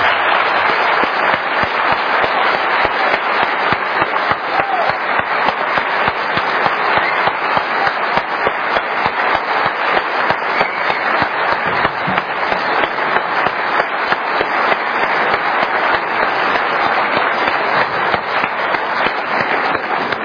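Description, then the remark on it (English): Sustained audience applause for two speakers, a dense steady roar of many hands clapping at an even loudness for about twenty seconds, with no voices standing out. “I ask now that you give a round of applause to both speakers.”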